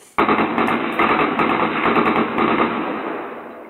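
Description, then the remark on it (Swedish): A moped or motorcycle carrying a driver and a passenger drives past in a deserted residential area and turns right, recorded by a black-and-white surveillance camera; its small engine a harsh, rapid rattling buzz that starts abruptly, holds steady and loud, then slowly fades over a few seconds. “En moppe eller motorcykel med en förare och en passagerare kommer åkandes och svänger av till höger.”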